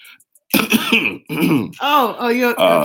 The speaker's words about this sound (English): Okay. I'm sorry I coughed there.